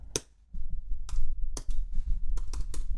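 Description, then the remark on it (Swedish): Crisp keyboard keystrokes tapped out at an uneven pace, about six sharp clicks over a low background rumble, with no one speaking, as a car registration number is typed into an online form for selling a car. “Regnummer, nu fyller vi här.”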